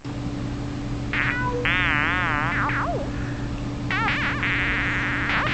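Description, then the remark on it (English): A Moog synthesizer loop from music software, added to build a jam session, plays warbling, wobbling tones that sweep up and down in burbling bursts over a steady low electronic drone, fairly soft and continuous, with no voices. “So here's Moog 3.”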